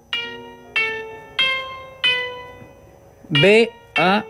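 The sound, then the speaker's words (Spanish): Four evenly spaced notes on a thin electronic keyboard tone, played on a keyboard on a mobile phone, form the B-A-C-H motif, each struck and fading, followed by two short bursts of a voice. “Yo no sé si se puede escuchar acá, pero traje teclado de emergencia. Es increíble, tiene teclado en el celular.”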